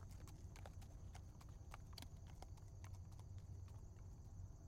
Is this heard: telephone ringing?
no